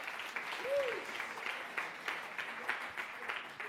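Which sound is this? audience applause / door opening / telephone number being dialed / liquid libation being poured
audience applause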